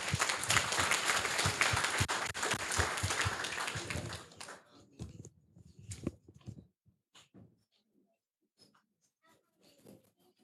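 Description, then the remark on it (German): Loud audience applause for a project group that worked on an intelligent charging control for phones, a dense crackle of many hands clapping for several seconds, then quickly thinning out to a few scattered claps and faint rustles. “Vielen Dank und einen Applaus für die Gruppe.”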